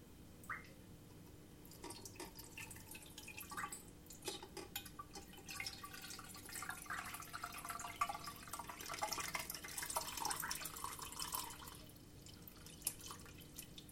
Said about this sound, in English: Right, so I've strained all that into a bowl, and then what I'm going to do is pour that back into the saucepan.